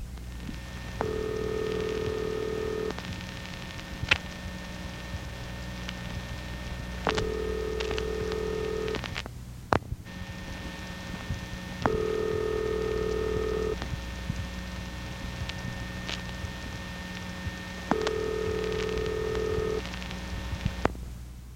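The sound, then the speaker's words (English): Telephone ringing tones demonstrating cross-ringing interference on a telephone line pulse in short, evenly spaced bursts over a constant line hum and faint crackle, with brief clicks between them and no voices. “Cross ringing will be next.”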